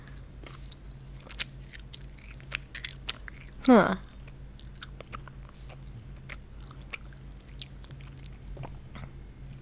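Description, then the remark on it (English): Steady chewing on Jack Links chili cheese meat snack sticks: soft, irregular wet clicks and crunches continue throughout, briefly interrupted by a short voiced exclamation partway through. “These are the Jack Links chili cheese.”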